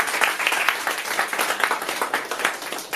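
A crowd applauds a speaker, a dense patter of many hands clapping at once, fairly loud and sustained with no talking over it.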